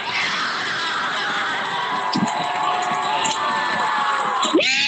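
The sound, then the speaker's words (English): A large crowd at a 2020 Black Lives Matter protest in downtown Portland cheers and shouts as marchers from Peninsula Park merge with a crowd gathered around the Justice Center, many voices blending into a steady, dense roar of continuous high-pitched whoops and yells that hold loud throughout. “There they merged with a crowd that had gathered around the Justice Center.”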